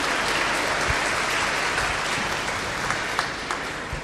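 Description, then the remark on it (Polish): Steady applause from an audience welcoming a priest who has come from the Archdiocese of Wrocław, a dense crackle of many hands clapping at a fairly loud, even level for about four seconds, with a few sharper claps standing out. “Wielkie brawa, przyjeżdża do nas z archidiecezji wrocławskiej.”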